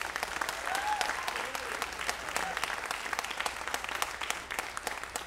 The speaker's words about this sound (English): So again, I'd like to introduce the band. Please put your hands together and give a warm round of applause for Delvon Lamar on the organ.